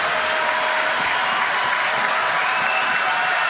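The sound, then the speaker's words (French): A large baseball crowd at Stade Canac stands, roars and claps steadily as the home team is one strike from victory, a dense, loud wash of cheering and applause that holds without a break from start to finish. “Et la foule se lève et fait du bruit au stade Canac.”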